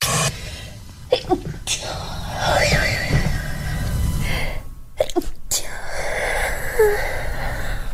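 A woman's sneeze, held back rather than fully released: breathy, wavering inhales and short, sharp bursts that sound stifled and muffled, with quiet vocal noises around them.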